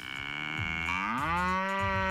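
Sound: cows mooing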